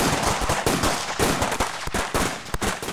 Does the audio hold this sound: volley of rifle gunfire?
yes